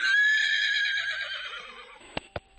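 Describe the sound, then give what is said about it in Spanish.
A horse lets out a long, loud whinny that wavers and slowly fades, followed by two sharp hoof clops. No one speaks. “Un trotar de caballos que nos lleva hasta otra casa señorial para hablar de la leyenda de la casa de los Solís.”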